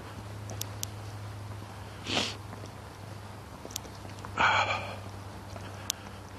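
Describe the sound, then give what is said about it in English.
A quick nasal sniff, then a longer, rougher snort a couple of seconds later, both fairly loud over a steady low hum, with a few faint clicks in between. “Sniff, snort, sniff, snort, sniff, snort.”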